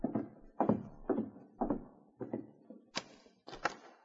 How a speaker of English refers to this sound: Later that night, Don Ritchie, alone in his cabin at the edge of town, had begun to unlace his boots and prepare for bed when there was a knock on his door.